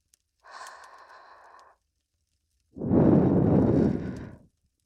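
Two soft breaths blown into the ear to finish an ear cleaning: first a shorter, airy exhale, then a longer, fuller whooshing puff after a brief pause, both gentle with no talking.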